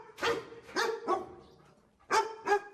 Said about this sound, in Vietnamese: Tuy nhiên, nhờ sống ở Anh lâu năm cho nên tôi biết Vừa rồi là tiếng chó của sứ nữ hoàng.